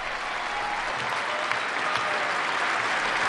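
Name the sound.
standing audience applauding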